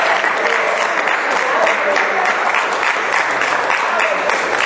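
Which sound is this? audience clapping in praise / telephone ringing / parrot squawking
audience clapping in praise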